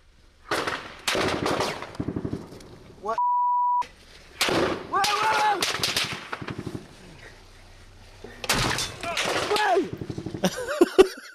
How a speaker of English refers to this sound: This bullet went very close.